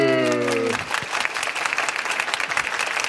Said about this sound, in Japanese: 裏で拍手をいただけるってなかなかないですよね。 いいですね。公開で裏をやるってのはなんか。